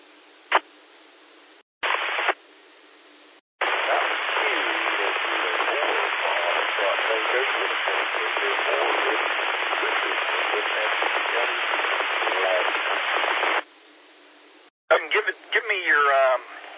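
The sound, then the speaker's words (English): Band-limited radio static hisses steadily for several seconds, broken by short silent gaps, with a faint voice buried in the noise of a ham radio transmission before a clearer burst at the end. “Sign three times out phonetically because you were way down in the static, please.”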